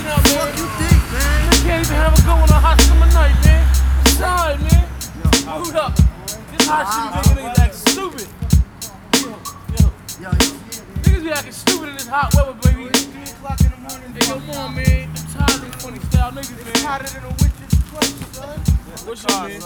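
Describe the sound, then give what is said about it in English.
A skateboard rolls over pavement with a low grinding rumble, then snaps through a rapid series of sharp clacks and slaps from tricks and landings, with voices talking faintly in the background. “Hey yo, yo, it's time to skate.”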